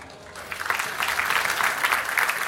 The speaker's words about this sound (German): Und ich bitte euch jetzt den großen Applaus für unseren Speaker.